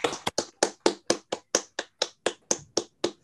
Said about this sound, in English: So let's all unmute to give him a round of applause for a great talk.